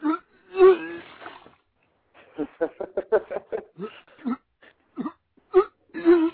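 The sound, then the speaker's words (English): A voice imitates vomiting: a long groaning retch, then a run of choppy gagging heaves and splutters, ending in another drawn-out moaning retch. “We need puke sound.”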